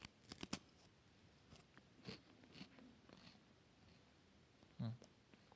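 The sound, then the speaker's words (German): A crisp crunch as someone bites into a crispbread (Knäckebrot), followed by a few scattered crackly chewing sounds and a short low murmur near the end. “Dann so ein Knäckebrot. Ist Jesus vielleicht so wie ein Knäckebrot? Ich probiere mal.”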